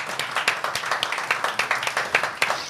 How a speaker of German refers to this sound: Also wir sind alle dafür, oder? Dafür können wir mal klatschen.